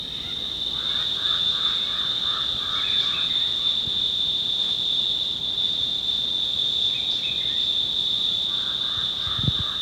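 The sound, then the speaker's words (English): A steady, high-pitched cicada buzz drones continuously through the whole recording, loud and unbroken, with a faint jabbering crow and other chattering bird and frog-like calls scattered beneath it. “There's Onis in the background now, over the jabbering crow and cicada.”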